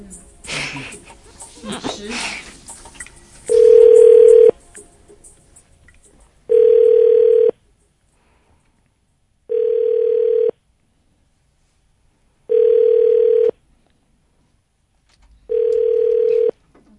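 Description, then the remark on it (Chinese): A phone ringback tone rings five times in a steady rhythm, each about a second long with equal gaps, as a call to a radio listener at 9:54 goes unanswered. Brief talk and laughter come just before the first ring. “大家都不接电话耶，是9:54已经太晚了吗？”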